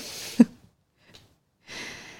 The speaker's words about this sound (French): Et bâille si tu en ressens le besoin. Elle bâille.